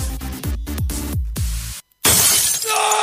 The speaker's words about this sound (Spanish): ¿Se te rompió el celular?